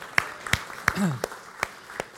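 A brief smattering of applause: about six sharp, scattered claps at an uneven pace, with a short voiced murmur between them.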